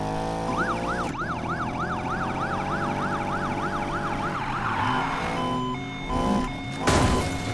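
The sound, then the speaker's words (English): A Federal Signal police car siren in a Need for Speed video game whoops in a fast, steady yelp, loud for about four seconds, then gives way to rumbling engine noise with one more short siren sweep near the end. “That's the federal signal siren, by the way.”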